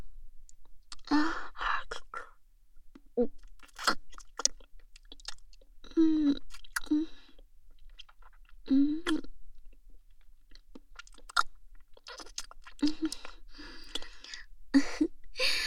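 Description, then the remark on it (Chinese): Wet chewing of abalone with soft smacking and squelching bites in an irregular rhythm, broken by brief breaths and small mouth clicks, no talking. “这个鲍鱼好鲜，好有嚼劲啊，滑滑嫩嫩的。”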